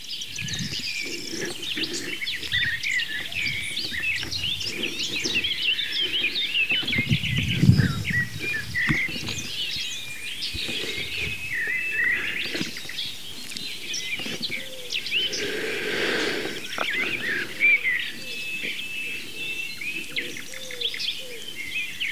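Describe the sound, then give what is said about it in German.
A wood pigeon calls with soft, low cooing phrases beneath a busy chorus of high chirping songbirds, sustained throughout in an outdoor setting with no one speaking. “Die Ringeltaube, die ist kein Singvogel, das ist halt eine Taube.”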